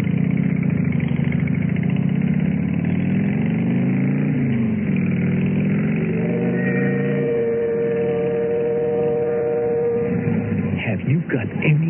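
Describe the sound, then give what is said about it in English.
A motorcycle carrying a passenger rumbles steadily, its pitch shifting as it rides, then settles into a higher, even drone before sputtering and slowing to a stop as it pulls up in front of the Lace House. “How I felt when I pulled up in front of the Lace House, helped her off the bike, and led her up to the front door”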